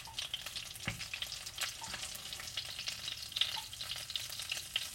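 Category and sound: food or drink, food frying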